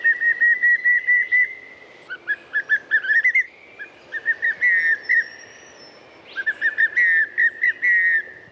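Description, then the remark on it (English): A pallid cuckoo, a widespread bird found across Australia, calls with a run of clear, evenly spaced whistled notes, repeated in bursts, while other birds chirp and twitter. No one speaks. “And Rob from Canberra was very quick in with the correct answer, which is, of course, the pallid cuckoo.”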